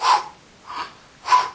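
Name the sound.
rhythmic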